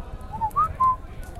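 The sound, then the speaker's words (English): An unhatched chick named Arnie, inside its egg, whistles back to a person's whistle: three short, thin, high peeps in quick succession, faint and muffled over a low steady rumble, with no talking. “So I whistled, I love you, and it's like this, which means I love you and whistle. And a baby whistled back.”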